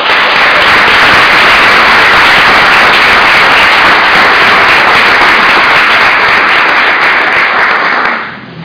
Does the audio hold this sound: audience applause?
yes